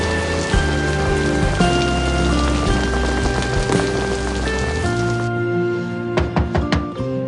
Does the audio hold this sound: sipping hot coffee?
no